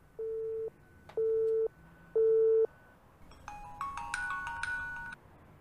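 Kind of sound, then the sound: signal or alarm, phone call ringing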